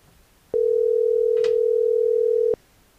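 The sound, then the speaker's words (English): A single steady ring tone sounds over a phone line for about two seconds as a call is placed, a flat electronic hum with a faint click partway through, then cuts off. No one speaks. “We might not be able to get Shane Russell on the phone.”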